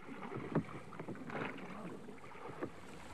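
A rowboat pulls away from the ship Hispaniola, with oars splashing and pulling at irregular intervals over a steady wash of water and faint wind. The sound is fairly quiet, with no voices.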